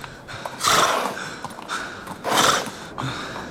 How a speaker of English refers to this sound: And then I saw that a horse was in front of me. It looked me up and down.